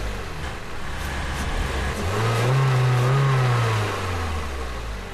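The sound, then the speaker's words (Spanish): A car engine, push-started by people on a road down a small slope, catches and revs up, its pitch climbing and holding steady before easing off, loud over a constant road-like rumble with no talking. “Ustedes súbase, yo empujo y aquel que mire que no vengan carros.”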